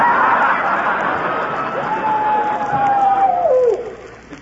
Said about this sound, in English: Well, why do those coyotes howl like that? Well, shucks, that's their mating call. It sounds like they hate to get married, doesn't it?